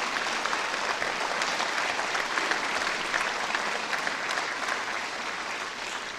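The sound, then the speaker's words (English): Audience applause for first responders who are rescuing people: a dense, steady clatter of many hands clapping at an even loudness, with no voices rising above it. “I think we should give our first responders a great round of applause for what they're doing for us today.”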